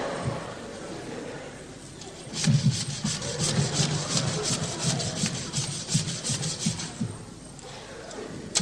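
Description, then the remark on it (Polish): A stiff brush scrubs soot off a hen, belly first and then under the wings, back and forth in quick, rhythmic rasping strokes, loud and steady for several seconds before easing off, with no talking over it. “Tak się pierze kurę. Najpierw brzuszek, a potem pod pachami.”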